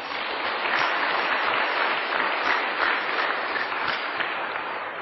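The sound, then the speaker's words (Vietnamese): A large crowd of children at a Buddhist temple claps steadily in a sustained round of applause, dense and even throughout, with no voices standing out above it. “Cho một tràng pháo tay.”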